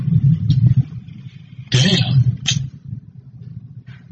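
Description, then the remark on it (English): Loud rolling thunder rumbles low and heavy throughout, with a sharp, bright crack breaking through midway before the booming settles back into a deep, fading roll. “We just had a bunch of thunder happen. Sound like a bomb.”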